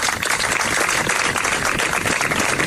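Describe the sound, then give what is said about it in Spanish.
Steady applause from a sizable crowd closing a memorial ceremony in Antequera, in the gardens by Avenida de Blas Infante, honoring Miguel Ángel Blanco and all victims of terrorism: a dense continuous patter of clapping hands at an even, fairly loud level, with no voices standing out. “Se terminaba ese emotivo acto de ayer tarde con estos aplausos.”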